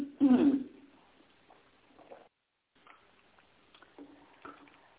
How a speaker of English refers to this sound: Hold on a second. I have to take some water, a little bit of water. Hold on just a second.